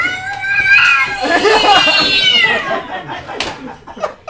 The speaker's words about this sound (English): Well, listeners, I just don't know how all those feral cats got in here.